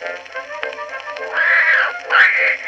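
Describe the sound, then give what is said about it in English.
A Maltese cat caterwauls in drawn-out, wavering yowls, starting strained and rising into two louder, shrill swells near the end, loud with no talking. “what is that hideous noise? Why, that's Tiny, my beautiful little Maltese cat”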